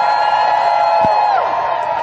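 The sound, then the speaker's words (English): A crowd cheers and whoops loudly and steadily as a speaker from Food Water Watch is introduced, with a dense wash of voices and a few higher rising shouts cutting through the roar. “One more time, y'all. Make some noise.”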